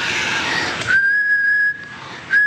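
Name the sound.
breathy human whistling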